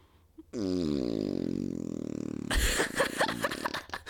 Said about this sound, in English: Oh, you like that? Oh, good, because I think more farts are coming.